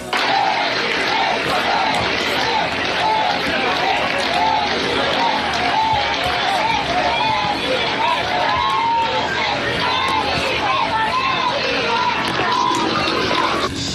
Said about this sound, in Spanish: Yo hablaba de cómo ha sido recibido el rey Felipe VI esta mañana, recibido con gritos de viva el rey a su llegada a la Plaza de Cataluña.